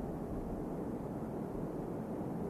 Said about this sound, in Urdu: یہ جو بڑے زور سے بارش برس رہی ہے یہ بھی اللہ کے فضلوں کا نشان ہے